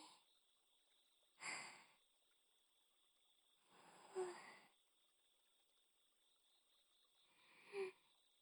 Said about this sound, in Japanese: お顔が近くなると、やっぱりお互いの吐息が聞こえてしまいますね。